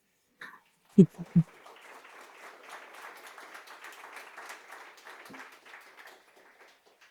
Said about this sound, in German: Jetzt in so einem Raum gibt es dann mal Applaus.